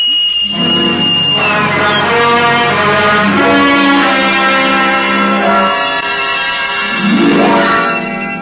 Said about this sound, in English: It wasn't long before my father began to regret that I'd been given a whistle. It held a growing fascination for me, and I was seldom without it, whether out of doors or in the house.